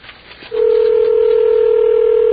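After a brief moment of quiet line noise, a steady electronic telephone ringing tone comes in loud and clear on a call nobody answers, holding one unbroken buzzing pitch through the end without any talking.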